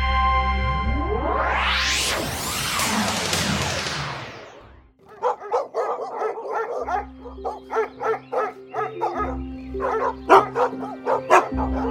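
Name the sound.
hunting dogs barking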